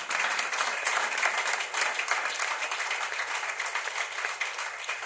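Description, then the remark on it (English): Sustained applause from an audience after a testimony, a dense, steady patter of many hands clapping at an even loudness for several seconds, with no voices standing out. “Okay, please, a round of applause once again.”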